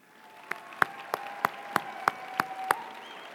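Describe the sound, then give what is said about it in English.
Audience applause welcoming returning students at Whitworth: a soft wash of clapping with about eight sharp, evenly spaced claps standing out in a steady rhythm, and a faint steady tone humming underneath. “And finally, if you're a returning student to Whitworth, go ahead and stand up and let us clap for you too.”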